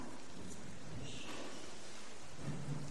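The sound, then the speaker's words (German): Steady rain pours down in a thunderstorm, with low rumbling thunder rolling underneath throughout. No voices, just the continuous wash of the storm. “Er stemmt sich gegen den Sturm und hält ihn stand.”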